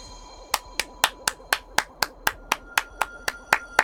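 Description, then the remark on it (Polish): A steady run of about fourteen sharp hand claps, evenly paced at roughly four per second, starting after a brief pause over a faint steady hum, with no voices. “Uderzaj dłonią w dłoń, a ja będę się kłaniać.”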